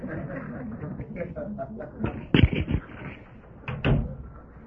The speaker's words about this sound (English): would you close that door? It sounds like there's action in the bowling alley.